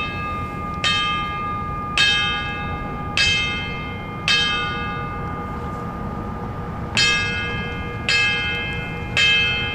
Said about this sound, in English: At 7:59 a.m., the time locally when the south tower of the World Trade Center collapsed, the La France bell rang three sets of five chimes each, known as the tolling of the bells.